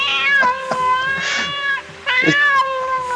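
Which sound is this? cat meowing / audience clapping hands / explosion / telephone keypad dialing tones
cat meowing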